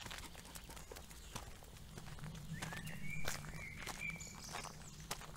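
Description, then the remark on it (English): Footsteps of a person walking a dog, Jasper, across a property outdoors at a steady, unhurried pace, each step a soft crunch, with a low background hum and a few faint high chirps. “One time I was taking a walk across the property with my dog, Jasper.”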